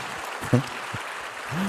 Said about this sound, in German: Da ist sie, ein Applaus.